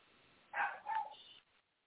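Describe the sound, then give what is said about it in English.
Two quick, high yaps from a small dog, muffled, with no talking around them; the dog is barking at something down there. “I don't know what the dog is barking at down there.”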